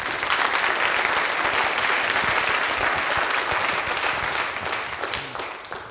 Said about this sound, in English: So why don't we give him a little warm round of applause.